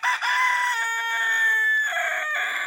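A rooster crows loudly in one long, sustained call with a shifting, strained pitch, heard on its own with no talking.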